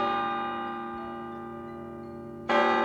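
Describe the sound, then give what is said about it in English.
A church passing bell tolls slowly, rung by six ringers as a wedding party leaves the church: one deep stroke hums and fades for over two seconds before the next heavy strike rings out, loud and resonant, with no voices. “And then, on the ears expecting the gay wedding peal, came the slow tolling of the passing bell.”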